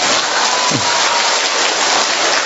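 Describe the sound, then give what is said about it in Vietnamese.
A church audience applauds to greet a mother and her child, a dense, steady wash of many hands clapping at once, loud and even throughout with no voices rising above it. “Cho một tràng vỗ tay chào hai mẹ con.”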